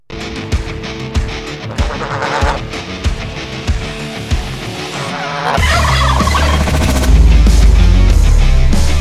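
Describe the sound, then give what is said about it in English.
Several turkeys on Staten Island gobble loudly in rapid, repeated bursts, and partway through a heavy low rumble joins in, making the noise denser and louder to the end. “Apparently, Staten Island doesn't know how to deal with turkeys.”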